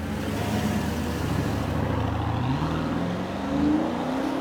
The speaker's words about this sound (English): Well-dressed, he sped up from our meeting in a top-of-the-range car.